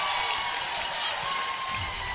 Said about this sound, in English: It no longer sounds like a funeral home here, by the way. People are screaming now.